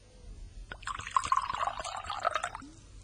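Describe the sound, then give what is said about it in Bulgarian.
Rum pours steadily into a glass at the Admiral Benbow inn for about two seconds, a bright gurgling stream with a few small clinks and drips, then stops abruptly. No one speaks. “Заповядайте, сър. Чаша ром.”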